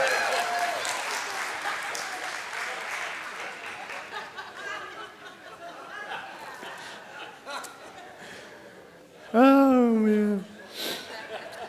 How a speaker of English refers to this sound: I did. I really did. Let me have some applause for my childhood.